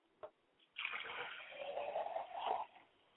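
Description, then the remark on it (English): A brief click, then a steady stream of water being poured onto the ground as a libation to the east, splashing for about two seconds, swelling slightly before cutting off abruptly. “I pour libation now to the east, and I say, Ashe.”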